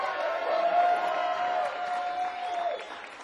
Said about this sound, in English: I want immediate applause. Like, you know, when the bus is coming and it's about to hit you, bam, I want it immediate. Bam, knock me out with the applause.